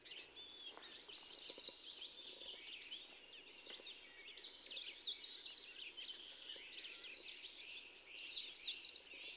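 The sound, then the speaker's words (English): A Redstart, a small songbird, sings a fast, high series of repeated two-note phrases, loud, heard twice with softer chirping and twittering in between. “The Redstart also has a two-noted song which is similar to the black and white warbler.”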